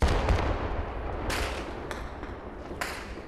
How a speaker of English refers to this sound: You can hear the fierce exchange of gunfire going on there. Indian armed forces are fighting what are believed to be two, perhaps three militants who are hiding in there.